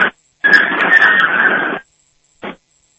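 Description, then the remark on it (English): A garage door opener closing a garage door: a steady, buzzing motor whir runs for over a second, with brief mechanical bursts just before and after. It is fairly loud, and no one speaks. “Sure. Let me close this.”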